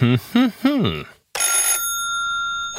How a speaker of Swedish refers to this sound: Ringsignalen kommer